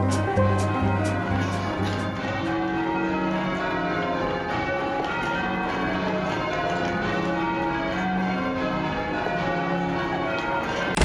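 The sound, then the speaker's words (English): The bells of Canterbury Cathedral peal continuously in a steady overlapping cascade, loud and resonant with a reverberant wash, with no voices present. “The sound you heard is Canterbury Cathedral ringing its bells, as it and many other cathedrals and churches up and down the land have done continually since Friday evening, when there was a development.”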